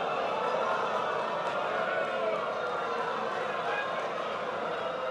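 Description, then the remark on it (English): A large audience boos Mitt Romney during his speech, a dense, sustained roar of many voices that holds at an even loudness for the whole stretch without letting up, lasting a full 17 seconds. “The booing went on for a full 17 seconds.”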